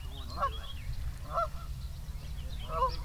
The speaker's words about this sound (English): So the one thing that I always feel like is these geese must be terrified. You know, that's interesting. Am I anthropomorphizing? Maybe a little. You know, it's for them at this point, it's about survival. They see us as predators.